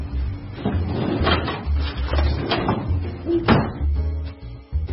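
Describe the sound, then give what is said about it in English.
A desk drawer slides open and shut several times, with low wooden rumbles and sharp knocks, no voices. “It's in my desk drawer.”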